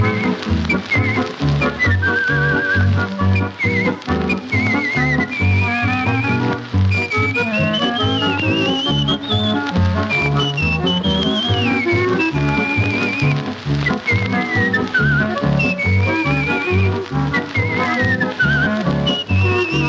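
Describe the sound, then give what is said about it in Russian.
A bright whistled melody from the film "Vernis, Sorrento" (Return to Sorrento), transferred from an old gramophone record, glides and trills over a full orchestral accompaniment, loud and continuous throughout, with no talking. “Так вот, практически все наши отечественные фильмы, там, где звучит свист, это звучит голос”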